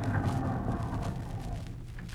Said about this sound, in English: Say, Jack, look at that beautiful car driving in. Gee, what a car. A chauffeur in uniform and everything.